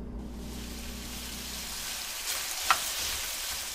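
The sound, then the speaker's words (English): Chicken sizzles steadily as it is sautéed in a hot pan for a couple's dinner, a dense, bright crackling hiss with a low hum underneath and one sharp pop partway through. No one speaks. “Soon, the unmistakable smell of sautéed chicken fills the room, and the couple calls their granddaughter to join them for dinner.”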